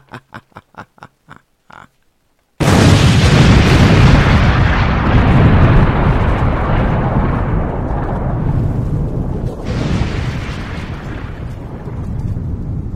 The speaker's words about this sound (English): I've gotta blow up Lord Wellington's beef trapeze. I'm gonna send this old podcast out with a bang.